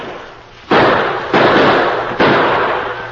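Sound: musket and gunfire shots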